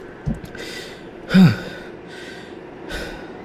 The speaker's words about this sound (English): I'm still panting from my sprint through West 4th.